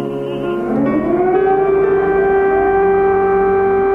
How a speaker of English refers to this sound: I'm scared because in the night, a lot of times, they have this siren. Air raid sirens that sent her parents and other Ukrainians scrambling into shelters as bombs and guns ravage the country.